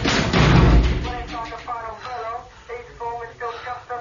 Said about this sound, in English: I kick the door shut.